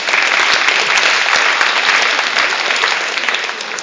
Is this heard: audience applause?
yes